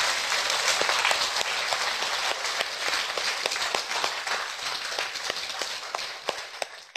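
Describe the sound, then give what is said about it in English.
Steady audience applause in praise of a report commissioned by British Prime Minister Gordon Brown, a dense wash of many hands clapping with sharper individual claps popping out, holding fairly loud for about seven seconds before easing off slightly at the end. No voices. “Bravo, applause.”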